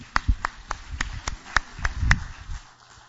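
Steady, evenly spaced claps, about a dozen sharp strikes in a brisk rhythm, over a low rumbling murmur from the crowd. No clear speech.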